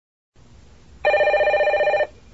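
A telephone bell rings loudly for about a second, a rapid trilling burst rising out of a low, quiet room hum. No one speaks.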